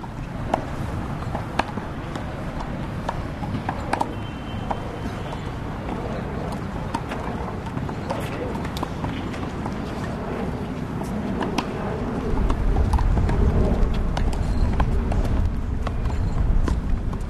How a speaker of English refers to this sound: Block out the wind, block out the plane going overhead. You got it? I'm going to say a handball court. Yep. Yay. Perfect. Very New York.